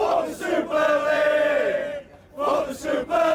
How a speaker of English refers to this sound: You had fans shouting traitors, burning shirts, holding up placards.